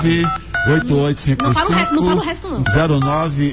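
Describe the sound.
A quick run of short telephone keypad beeps, DTMF dialing tones pressed one after another as a phone number is dialed to call someone, heard clearly under a man's voice talking over them.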